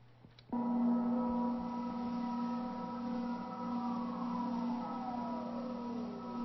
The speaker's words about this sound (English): So you hear sounds from the building and boiling and stuff like that. But then your ear is going to hear an oscillation back in there, I hope.